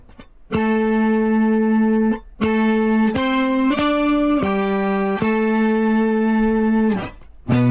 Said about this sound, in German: Tremolo? Leichter Tremolo? Mach mal ein bisschen, damit ihr für den Nachhall was hören könnt. Das ist auf jeden Fall ohne Ende verschiedene Pitch-Shifter, ne? Quinte, Septime, Oktave. So ein 12-String-Simulation oder so.